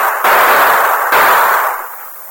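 gunshot

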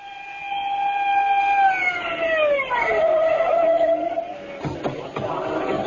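police squad car siren

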